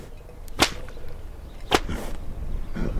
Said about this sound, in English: The csikós cracks his 8-foot hand-woven whip in the air, which scares me more than Csomló. According to legend, the csikós used the sound of the whips to acclimate horses to gunfire.